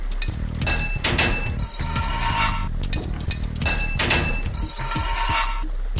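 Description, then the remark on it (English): Video game hammering sound of a pipe piece being knocked into place after the player presses Enter to fit it: a loud run of metallic clanks and bright, bell-like ringing, in two busy bursts with short gaps, no voices. “Okay, so there I hit enter to fit it, and it fit. Hammered it in.”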